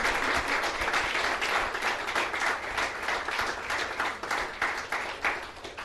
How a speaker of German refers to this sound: Und deswegen auch nochmal einen großen Applaus hierfür.